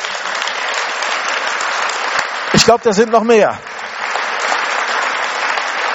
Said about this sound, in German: Halleluja. Wollen wir Jesus mal einen Applaus geben dafür?